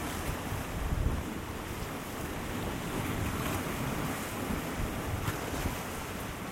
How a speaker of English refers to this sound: You can probably hear. It's very windy and the seas are rough.